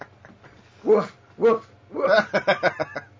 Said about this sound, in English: Woof, woof. Someone a dog? Someone brought a dog in. I just heard woofing.